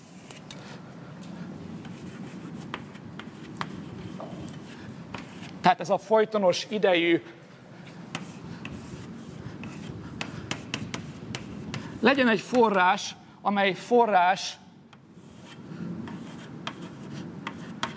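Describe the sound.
Steady scratchy strokes and small irregular taps of a pen or chalk moving across a board as a model diagram is drawn continue throughout, while a voice speaks in two short stretches over the drawing sounds.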